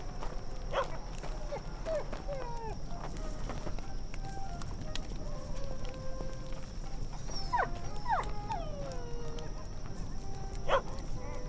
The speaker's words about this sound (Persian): سگه چی میگه؟ این سگه رو میکشی اون وقت؟